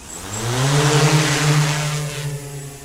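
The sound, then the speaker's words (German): A delivery drone's six carbon rotors spin up before takeoff, a buzzing whir that climbs quickly in pitch and then holds a steady, loud hum over a hiss of rushing air, with no talking. “Die 6 Rotoren aus Carbon beginnen zu kreisen.”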